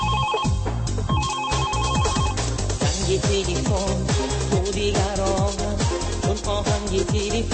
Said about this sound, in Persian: موضوع امروز برنامه ما در مورد آهنگ های تلفن های موبیل است